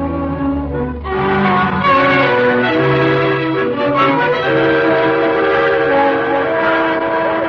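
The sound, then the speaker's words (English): A train's whistle sounds loud and sustained in rich, overlapping tones over the steady rumble and clatter of rail cars at a station, continuing throughout with no voices. “Reported as instructed at the railway station.”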